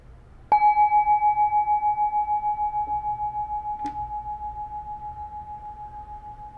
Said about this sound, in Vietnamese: Thả lỏng, mình lắng nghe tiếng chuông.